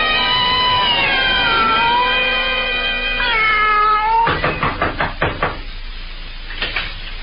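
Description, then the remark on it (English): A long, drawn-out meow with shifting pitch, most likely a human voice imitating a cat, is followed by a quick series of sharp knocks, then a couple more taps. “Meow!”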